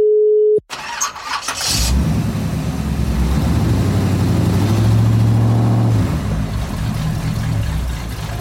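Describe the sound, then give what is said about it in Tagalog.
A short tone cuts off, then a car engine cranks for about a second before catching and settling into a loud, steady rumble, with no one talking. “Nasiraan ka na ba ng kotse sa daan?”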